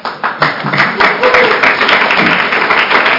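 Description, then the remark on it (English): A crowd applauds steadily at a legislature meeting, a dense wash of many hands clapping at once, loud, with a faint murmur of voices mixed in throughout. “And so one of the customs that we have in the legislature, it might be a crazy one, is that we don't applaud or boo or any of those things.”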